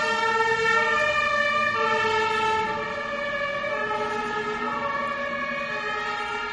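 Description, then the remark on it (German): An emergency vehicle's siren wails with a slow rising and falling pitch, loud at first, then easing slightly as it continues past. No one speaks. “Also jetzt habe ich da, ich lasse mal eben den Wagen vorbeifallen.”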